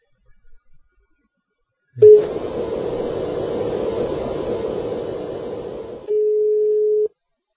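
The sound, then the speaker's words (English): Skype dials a phone number in the Netherlands (country code 31); the call connects with a short tone, then a long stretch of hissy line noise, ending in a steady, loud telephone tone lasting about a second. No one speaks. “Okay, Skype's dialing it.”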